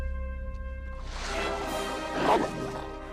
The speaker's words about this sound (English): A huge brown dog with flopping ears and jowls leaps over the bottom part of a door and onto a deck. He runs down wooden stairs as a metal chain hangs from his neck.